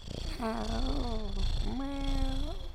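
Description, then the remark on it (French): A cat, Marcel, purrs in a steady, low rumble while being petted on a sofa, with two drawn-out, wavering cat cries gliding over it. There is no talking. “Un jour, je me trouvais tranquillement sur le canapé à caresser mon chat.”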